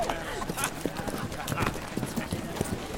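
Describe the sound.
Several horses' hooves clop in a busy, uneven rhythm at moderate loudness as more and more riders arrive to join the group, with indistinct voices mixed in.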